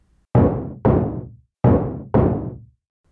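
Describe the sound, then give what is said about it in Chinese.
Four solid knocks on a door at 8 in the evening, struck in two pairs with a short pause between them. They sound loud, each ringing out briefly, with no voices. “又一阵敲门声，我背上包包朝门口走去。”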